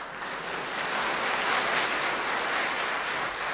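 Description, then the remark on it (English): A steady wash of recorded applause played from a record, many hands clapping in a dense, continuous patter with no breaks, somewhat dull and muffled in tone, with no voices over it. “Puts on record of own clapping.”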